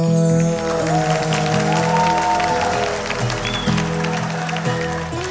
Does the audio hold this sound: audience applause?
yes